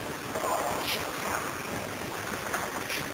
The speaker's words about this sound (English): A windstorm, maybe. Sounds like it. But there is a voice that's like. I hear the voice.